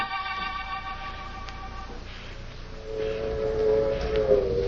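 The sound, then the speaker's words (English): A train gets underway with a low, steady rumble. It opens with sustained whistle-like tones, then a rising metallic squeal swells over the rolling noise as it gathers pace. “I kept my head down till the train started.”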